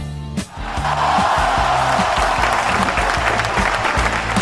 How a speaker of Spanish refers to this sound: ¡Cuántos aplausos! ¡Qué bienvenida